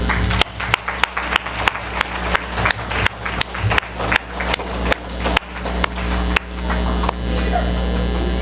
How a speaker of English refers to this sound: So let's give a loud round of applause for this gentleman.